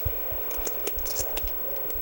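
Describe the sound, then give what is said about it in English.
Poker chips being shuffled by players at a Texas Hold'em poker tournament, a steady patter of light plastic clicks and clacks in an irregular rhythm over a soft background hum, with no one speaking. “All you're hearing is people shuffling their chips here.”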